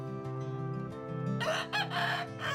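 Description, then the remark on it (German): A rooster crows loudly, a strained, drawn-out call that breaks into harsh bursts, while a hen clucks in a steady low rhythm underneath, at the Arche Warder landscape animal park. “Ähnlich kommunikativ wie Schweine sind scheinbar Hühner.”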